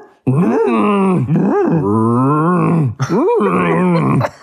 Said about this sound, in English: I don't know if the sound file is actually louder, but they're the loudest fucking thing in the game. And they sound like dying retards because that's what cows sound when like. When they're dying.